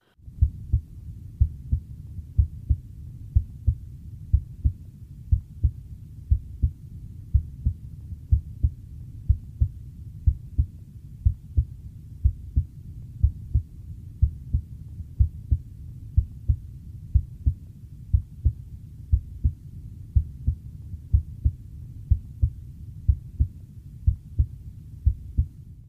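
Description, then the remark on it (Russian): Steady heartbeat heard through a stethoscope at the tricuspid area, where the tricuspid valve and right ventricular muscle are assessed, with regular paired low thuds repeating about once a second, the first heart tone of each pair louder, tones slightly quieter than at the apex, over a soft low hum and no talking. “Аускультативная картина здесь близка определяемой на верхушке, однако громкость тонов несколько меньше.”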